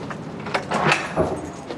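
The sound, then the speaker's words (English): A door on the lower level of a building housing a Human Resources department and puppy placement is opened: a sharp click of the handle, a brief rattling clatter, then another thud as it swings, over faint background noise with no one talking. “So let me do the door. There we go.”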